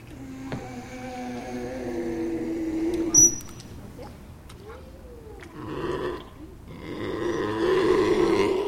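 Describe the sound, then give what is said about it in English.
Bumper, a resident harbor seal at the Woods Hole Science Aquarium in Woods Hole Village, lets out a series of low, throaty grunts and growls, fairly loud, with rough rumbling bursts that swell toward the end amid faint background noise. “The two resident harbor seals, Lucille and Bumper, may be the best-known residents of the Woods Hole Science Aquarium.”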